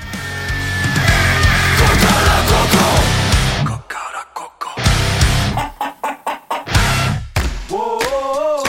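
A loud, busy burst of music gives way to choppy rhythmic hits, then a rooster crows near the end, its wavering call clear and close over the backing sound.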